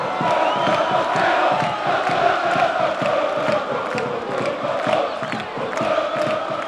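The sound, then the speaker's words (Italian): A large football crowd in the Tribuna Terminio stand at the Partenio stadium applauds steadily after Avellino beat Catania 2-1 to reach the playoff semifinal, dense clapping blended with a loud roar of voices and occasional shouts, sustained throughout. “Questo è l'applauso della tribuna Terminio.”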